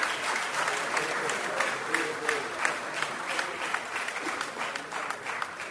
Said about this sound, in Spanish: Por el departamento de Paysandú, ahora invitamos a los alcaldes que se encuentren presentes. Muy bien, un aplauso para Paysandú.